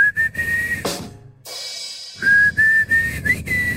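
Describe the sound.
Someone whistles a rock song melody in long, clear, sustained notes, pausing briefly midway before resuming, with a low rumbling background underneath.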